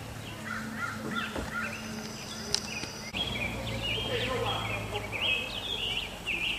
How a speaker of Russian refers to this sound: Я надеюсь, вы, друзья, слышите, как птицы поют. Это такое заповедное место, называется гора Хермон.